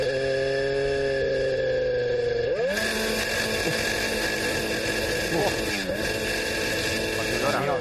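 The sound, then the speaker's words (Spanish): The blown engine of Fernando Alonso's Formula 1 car in Bahrain, as someone tries to start it, drones with a rough, buzzing whine, then jumps in pitch and keeps wavering unevenly, like a strained blender rather than a clean rev. “Este es el sonido real del coche de Fernando Alonso en... Petado. En Bahrein.”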